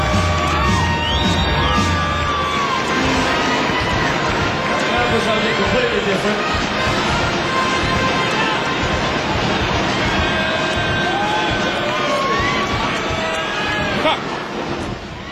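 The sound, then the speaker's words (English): A stadium crowd cheers wildly in a loud, sustained roar, with scattered shouts and whistles rising above the dense wash of noise from start to finish. “The crowd going crazy.”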